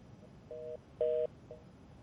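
A telephone line to a guest in Beijing for a Voice of America program sounds with short, steady electronic tones, three quarter-second beeps spaced about half a second apart, moderately loud and clear over a faint background hiss, with no answer and no voices; the call has not connected.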